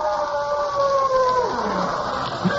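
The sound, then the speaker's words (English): A wolf howls in one long, sustained wail that slowly slides downward in pitch, fairly clear and prominent over a steady background hiss, with no one speaking. “Wolves? Yes, but they won't attack you unless they're hungry.”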